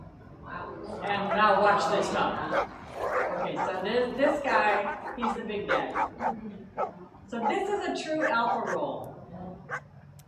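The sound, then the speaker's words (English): Several dogs bark, yip and whine while playing together in a tumble, a near-continuous run of excited vocal bursts over about ten seconds, with a few brief pauses. “And look, now they're playing. Now the playfulness comes out.”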